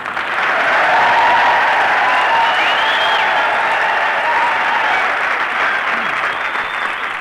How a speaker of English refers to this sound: Here we are at old Camp Callan. All right, boys. Come on, start yelling.